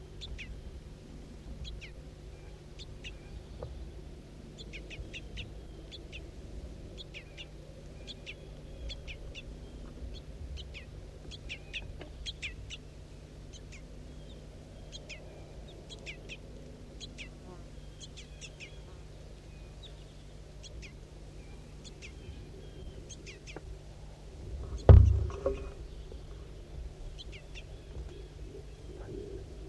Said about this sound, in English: Start recording juvenile begging calls again.